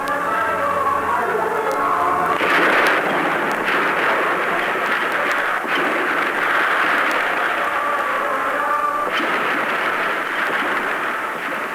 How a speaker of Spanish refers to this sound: El periodista no sabe de dónde salen los disparos de los francotiradores. Solo sabe que los soldados no disparan contra los que no tienen armas, sino contra quienes los agreden desde los edificios que rodean el Palacio de la Moneda